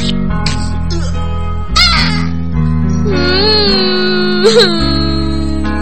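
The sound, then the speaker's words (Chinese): A baby cries in loud, drawn-out wails, with a few sharp rising bursts over a steady low hum in the background. “嗯，宝宝乖，不要哭了，唱歌给你听好不好？”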